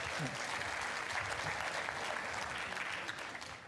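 An audience applauds steadily, a dense wash of many hands clapping at an even level for several seconds before tapering slightly at the end.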